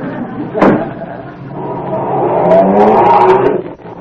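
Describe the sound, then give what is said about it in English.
A door thumps shut, then a delivery truck's engine revs up with a rising drone and pulls away, the motor sound swelling loud before easing off. “I'm going past your house. You want a lift to my delivery truck?”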